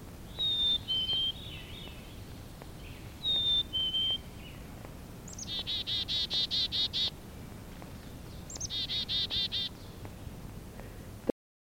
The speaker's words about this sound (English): Black-capped chickadee.